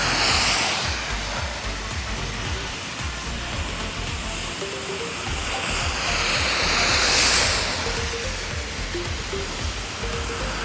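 A steady broad rushing noise from a car going by swells to a peak partway through and then eases off, with a few faint tonal hums underneath and no talking.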